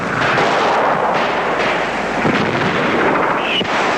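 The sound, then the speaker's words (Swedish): Dense, continuous gunfire from fighting in the town of Tornio, about 600 meters away, rattles and crackles as a loud, harsh wash of shots, with a brief high-pitched whine cutting through near the end like a passing ricochet; direct fire and ricochets whistle around Swedish observers. “Direkt eld och rikoschetter viner kring svenska observatörer.”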